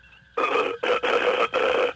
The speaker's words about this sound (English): We're picking up some sort of beep, beep, beep thingy. I don't know what it is, but there's got to be some kind of doohickey working aboard that ship making that funny beep, beep, beep noise.